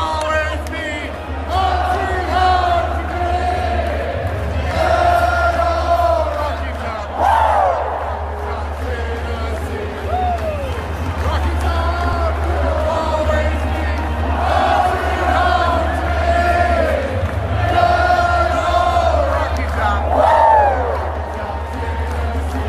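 A huge stadium crowd sings a song together, led by one person conducting the whole crowd, loud and steady for the whole stretch, thousands of voices swelling in repeated melodic phrases over a constant low rumble.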